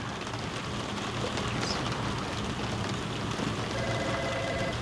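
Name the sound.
rain falling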